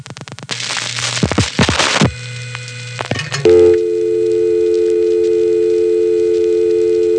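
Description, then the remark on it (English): Harsh bursts of line noise and a few clicks give way to a steady, buzzy touchtone test tone on a telephone ringback test line for installers and repairmen, reached by dialing 660, the primary ringback code in the downstate area; the tone holds loud and unbroken until the end. “And that little tone there is a touchtone test.”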